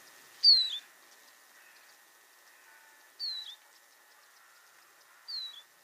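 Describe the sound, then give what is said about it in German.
Three thin, high Eurasian siskin descending flight calls, each a short plaintive note sliding downward, spaced a few seconds apart over a faint steady hum, with no voices. “Und was ihr dann hört, ist so ein bisschen trauriges, absteigendes Dü.”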